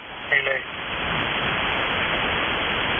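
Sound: radio static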